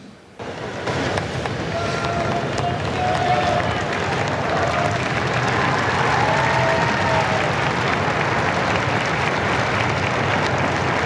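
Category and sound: crowd, crowd applauding and cheering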